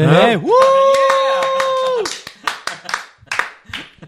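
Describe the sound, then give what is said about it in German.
A voice swoops up into a long held tone for about two seconds, then a quick burst of sharp, irregular hand claps follows, with some vocal sound mixed in. “Du hast doch beim Klatschen gar nicht Hölt gemacht.”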